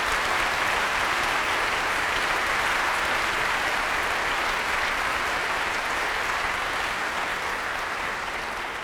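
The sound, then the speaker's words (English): Steady, dense applause from a large audience in a concert hall for composer Stephen Montague, a continuous wash of clapping that holds at an even, fairly loud level for the whole stretch, with no voices over it. “Let's have a round of applause for this pagan man.”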